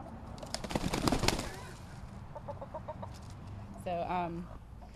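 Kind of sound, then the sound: animal, backyard chickens clucking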